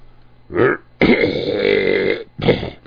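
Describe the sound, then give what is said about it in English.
A short, gravelly burp after eating bean and cheese tacos from a taco truck is followed by a long, drawn-out belch that rumbles for about a second, then one more brief burp. The sounds are loud and low, with no talking. “Pardon me.”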